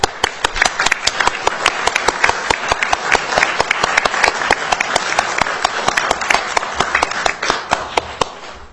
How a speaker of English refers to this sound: we'd like to take a brief moment to give them a round of applause.